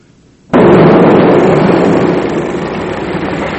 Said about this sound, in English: Every time a gun goes off, the camera jerks. I mean, he was frightened by the gunshots.